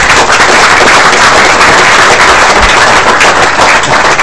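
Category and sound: crowd, applause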